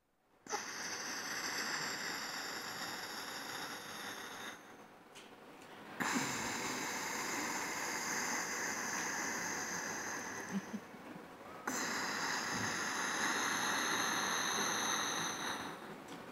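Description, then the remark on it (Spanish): A person does a breathing technique from a prenatal yoga class that imitates the sea: three long, steady, rushing breaths with a soft hiss and faint throaty tone, each like a wave, with no talking. “Entonces, en una clase de yoga para embarazadas, me enseñaron esta respiración, que es ni más ni menos que imitar el mar.”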